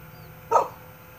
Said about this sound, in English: Okay, my dog is barking at I think it's motorcycles on the road, not far, kind of away.